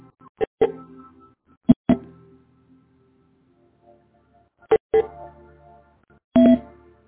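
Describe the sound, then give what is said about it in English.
Several short electronic phone keypad beeps sound in pairs and singles as someone tries to unmute callers' phone lines, with pauses between them, ending on a longer held dual tone; clear, with no talking. “Take a deep breath in as I attempt to unmute the phones for our Buddhist reflections and affirmations.”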